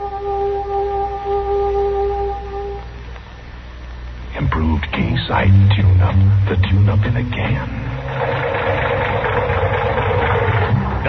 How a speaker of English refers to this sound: Say, that engine of yours sounds like real tired iron.